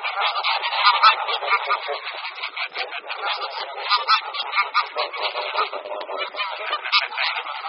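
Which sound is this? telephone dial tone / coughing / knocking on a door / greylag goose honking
greylag goose honking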